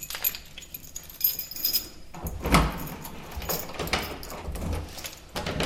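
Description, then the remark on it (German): Metallic jangling of keys, followed by the door of a house being unlatched and pushed open, with shuffling handling noises throughout and no talking. “Und plötzlich steht man vor einem Haus. Da soll man jetzt rein. Die Schlüssel sind gelegt.”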